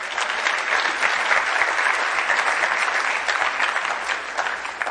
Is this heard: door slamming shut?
no